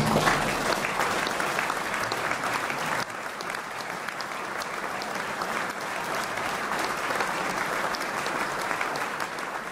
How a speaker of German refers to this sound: Applaus für Morgan Voisin.